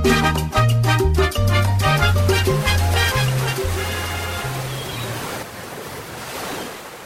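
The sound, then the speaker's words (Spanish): Sea waves wash steadily beneath a low, stepping melody, with a soft sea breeze at a port in Yarica on a hot summer night; the music fades after a few seconds, leaving the continuous surf and wind alone. “Es pleno verano en Yarica y a pesar de la suave brisa que viene del mar, no se logra aplacar el sofocante calor que hace esta noche en el puerto”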